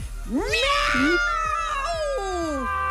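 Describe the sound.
Three people meow together in imitation of a cat in Humor FM's New Year game 'Who Said Meow', their overlapping voices forming one long, drawn-out, wavering meow, loud, lasting nearly three seconds.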